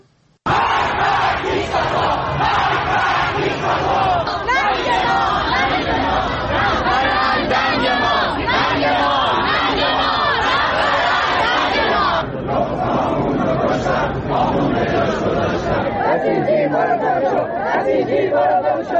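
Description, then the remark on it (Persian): A large crowd of protesters in several cities across Iran chants slogans against officials of the Islamic Republic in loud, rhythmic unison. Many voices shout together continuously with dense overlapping chatter underneath, and the chant pauses briefly before picking up again. “در تظاهراتی که در چندین شهر بزرگ و کوچک ایران اتفاق افتاد معترضان علیه مسئولان جمهوری اسلامی شعار سر دادن و از بیکفایتی در اداره مملکت گفتند.”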